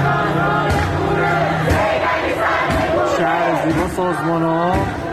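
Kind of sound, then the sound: crowd, protest crowd chanting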